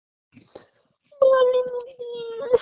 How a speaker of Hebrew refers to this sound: מה, מה? אני לא מבין את הבכי.